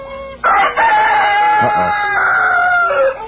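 A rooster crows loudly, one long drawn-out cock-a-doodle-doo lasting about three seconds, with a harsh, strained tone that rises and then trails off.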